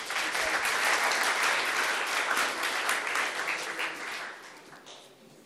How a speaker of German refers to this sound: Danke sehr, einen Applaus für dich.